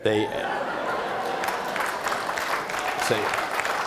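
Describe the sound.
An audience applauds steadily, a dense wash of clapping that holds at a fairly loud level for about four seconds, with brief voices cutting through at the start and near the end.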